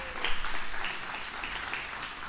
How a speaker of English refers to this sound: We can give them some applause.